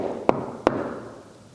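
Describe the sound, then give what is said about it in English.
Two sharp knocks, a fraction of a second apart, ring out with reverberation, followed by a fading hum of room tone and no voices. “He comes tonight to that wall. And he says, behold, I stand and I knock.”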